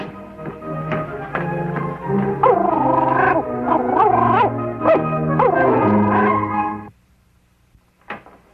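dog barking and yipping

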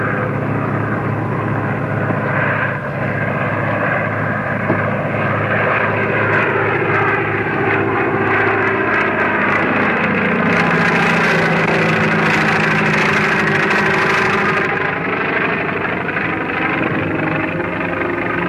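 propeller airplane engine

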